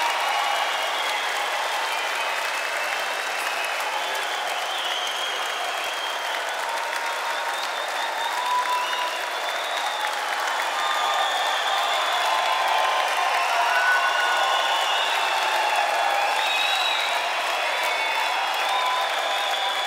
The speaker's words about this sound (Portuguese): Um caloroso aplauso de vocês para quem